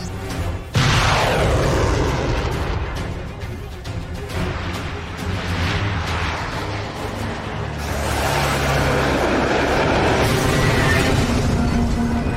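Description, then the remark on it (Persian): Heavy weapon fire and explosions fill the scene, loud, with a sharp blast early on, a sweeping whoosh, then a dense, continuous barrage of booms and crackling bursts, as guns fire from a ship's deck at a laser-locked enemy aircraft. “از عرشه به مرکز هدف رو بزنین.”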